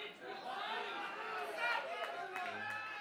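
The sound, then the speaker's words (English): A steady murmur of audience chatter at a live gig where a band plays acoustic songs, many overlapping voices talking at once with no single speaker standing out, holding an even, moderate level throughout. “So we try to be quiet, and so if you guys could be quiet and let us hear ourselves, that would be great.”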